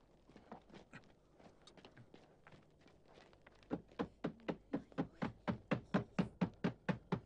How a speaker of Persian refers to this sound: در را بشکنید.